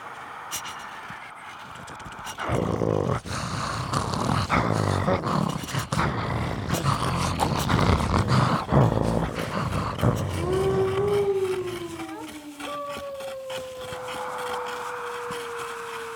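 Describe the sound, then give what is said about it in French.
A pack of wolves in a vast forest at night snarls and growls in a loud, rough, overlapping chorus, then settles as several long, gliding howls rise and trail off near the end. “Je me réveille au milieu de la nuit, dans une vaste forêt agitée en plein milieu d'une meute de loups.”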